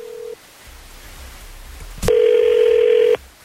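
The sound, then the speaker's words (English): A phone line rings out on an outgoing call placed by the 102.9 The Wolf radio morning show: the tail end of one steady ringback tone, a quiet pause and a click, then another loud, even tone lasting about a second before cutting off. “We're going to reach out to Carly and see if she'll come on the show with us”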